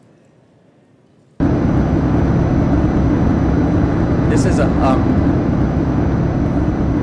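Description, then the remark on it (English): After a brief near-silent moment and a few spoken words, a loud, steady mechanical hum switches on abruptly, a low droning whir with a faint tonal buzz that continues unchanged to the end. “basically it's a mechanical sound. It might be something like the hum of a refrigerator or air conditioner.”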